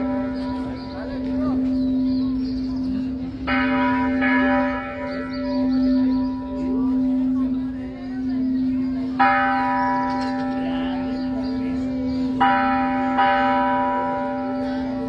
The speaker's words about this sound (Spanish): Como señal de duelo por la muerte esta mañana del Papa Francisco, las catedrales de todo el país, así como el resto de los templos, repicaron sus campanas de manera simultánea en punto de la 1 de la tarde.